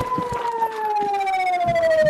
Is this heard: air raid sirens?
yes